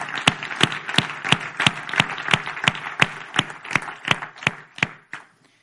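An audience applauds, sharp claps falling into a steady, even beat over a dense wash of scattered clapping, loud throughout before quickly dying away near the end.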